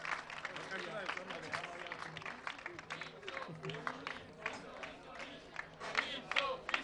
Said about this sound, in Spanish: Enhorabuena entonces a los multipropietarios de Pisoni. Un fuerte aplauso para los multipropietarios del puente de Pisoni.